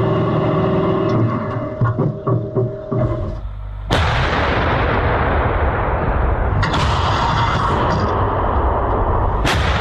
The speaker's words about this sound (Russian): Экипаж еще не знает, что вновь ведет огонь по российскому орудию Д-20.